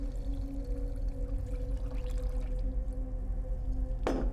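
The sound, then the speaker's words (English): Milk pours steadily into a bowl of seeds and grain in a kitchen, filling it to the brim, with a soft, continuous liquid rush over a low background hum, then a brief sharp clink near the end. “pours milk into a bowl of seeds and grain. She fills the bowl to the brim with milk.”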